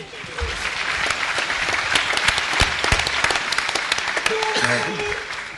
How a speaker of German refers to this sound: Ja, dann mal einen Applaus für diesen Menschen, für dieses wichtige Tool.